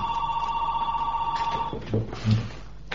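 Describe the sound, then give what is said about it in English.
A telephone rings with a steady electronic trill for over a second, fairly loud, then cuts off as a person begins talking. “The phone is driving you crazy.”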